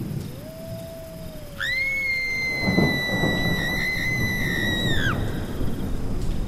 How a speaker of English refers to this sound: Oh, it's raining. It's showering.